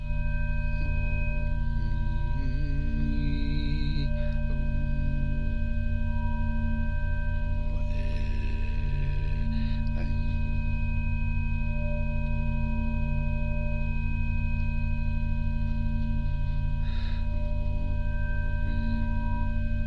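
Steady electronic tones showing the harmonic structure of the heart hold for the whole stretch, several pure pitches stacked in even harmonic layers over a low, droning hum, with a few brief breathy bursts rising over them now and then.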